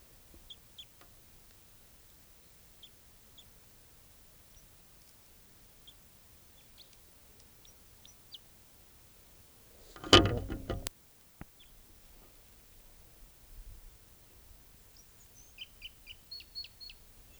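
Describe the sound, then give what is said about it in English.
A wild bird calls in a loud, harsh burst lasting about a second, with faint high chirps scattered before it and a short run of thin, high tweets near the end. “Wild bird.”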